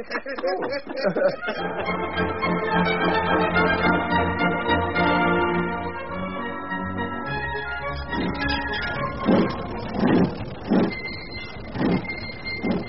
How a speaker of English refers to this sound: What's that screeching noise, Wheeler? The wheels are slipping on the incline, Hancock. That's why the engine's racing. It feels like I've been pulled back by an invisible hand.